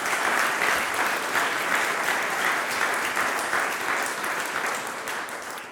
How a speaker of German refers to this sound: Geben wir doch mal den Kindermitarbeitern heute Morgen Applaus, auch wenn sie es vielleicht jetzt nicht hören, aber ihr könnt vielleicht nachher auf sie zugehen und ihnen Danke sagen.